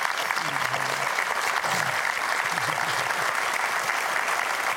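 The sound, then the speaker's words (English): Steady, loud applause from an audience on the show Life Today fills the whole clip, a dense wash of clapping with a low voice faintly speaking underneath. “Would you just applaud the life of”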